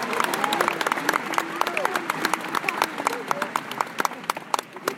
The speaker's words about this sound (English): So graduates, please join me in honoring our world-class faculty with your applause. Let's thank the faculty.